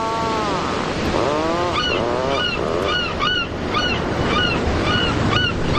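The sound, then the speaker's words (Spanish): Steady surf noise washes throughout while geese honk repeatedly, their calls overlapping in a busy, rhythmic chorus over the roar of the sea, on the coast at Ballycastle on the Causeway Coastal Route, Northern Ireland. “Otra vez el sonido del mar, Paco, ¿dónde estamos ahora?”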